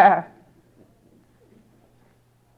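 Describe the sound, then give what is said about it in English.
A short, nasal bleat, a human voice mimicking a sheep, rings out once at the start, then fades into near silence with only a faint low hum. “Preaching to thousands of sheep. Hearing their incredible response.”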